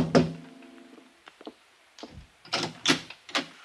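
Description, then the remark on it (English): A series of knocks on a wooden apartment door: one solid rap, then lighter scattered taps that grow into three firmer knocks, clear with no voices. “I was still weaving on my feet when I tapped on the door.”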